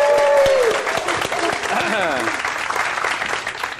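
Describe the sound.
An audience at an SA Mastermind event breaks into steady, sustained applause for a speaker being introduced, a dense wash of clapping that stays loud throughout, with a brief tonal sweep at the start and faint voice-like harmonics mixed in.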